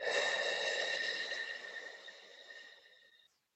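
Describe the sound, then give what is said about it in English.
A single slow, controlled exhale, breathing out for a count of eight in a box breathing exercise, steady, with an airy breath sound and a faint whistling edge that gradually fades out over about three seconds. “Then we breathe in for 4. Then we hold it for 4. Then we breathe out for 8.”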